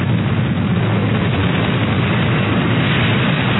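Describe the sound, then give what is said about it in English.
A helicopter sound effect: the engine and rotor roar steadily and loudly, a dense, continuous drone with rumbling low end that holds at the same level throughout, with no voices. “How come they crashed, but I'm still hearing the helicopter?”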